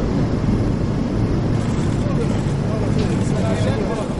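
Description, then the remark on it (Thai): A steady, loud roar of airplane engines, a dense rumbling wash of noise heavy in the low end that holds at an even level for several seconds without pause. The airplane is bringing Arab leaders to Riyadh, Saudi Arabia, ahead of a summit. “เสียงเครื่องบินที่นำผู้นำประเทศอาหรับเดินทางมากรุงริยาดของซาอุดิอาระเบียเมื่อปลายสัปดาห์ที่แล้วเพื่อเตรียมตัวก่อนการประชุมสุดยอดในสหรัฐนะครับ”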